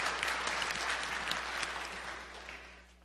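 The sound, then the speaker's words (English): An audience applauds a 102-year-old woman in a dense, steady burst of many clapping hands for about three seconds, loud and unbroken before tapering slightly at the end, with no voices over it. “But it is quite a feat here on earth, so you are to be applauded for that.”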